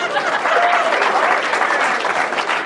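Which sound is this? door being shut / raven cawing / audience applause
audience applause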